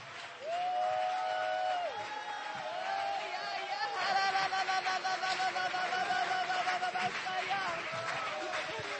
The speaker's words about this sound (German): If you want that kind of faith, und wenn du so einen Glauben haben möchtest, dann möchte ich, dass du das Wort Gottes einen Moment lang hinlegst und in die Hände klatscht mit ganzer Kraft and shout unto God. Und rufe zu Gott.